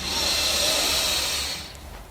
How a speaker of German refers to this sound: Wir nehmen jetzt zusammen einen tiefen Atemzug und atmen ein.